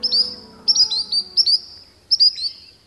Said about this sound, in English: It's a spotted sandpiper, a small shorebird often encountered on a walk or paddle along freshwater shores.